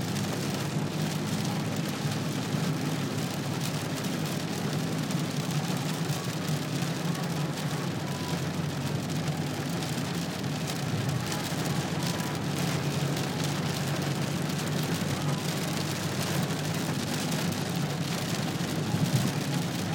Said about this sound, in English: This is raining car.